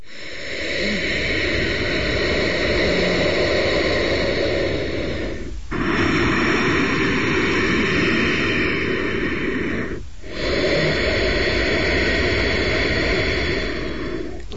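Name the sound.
ujjayi breathing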